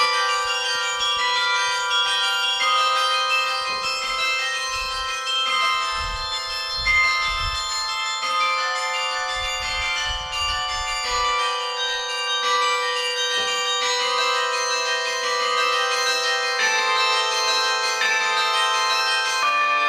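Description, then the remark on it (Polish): Tuned tower bells in Gdańsk, hung on a tower, ring continuously for the whole stretch, their strikes overlapping into a loud, shimmering wash of sustained tones with no voices present. “Po roku dzwony znowu wróciły do Gdańska, zawieszono je na wieży, no i pełen sukces.”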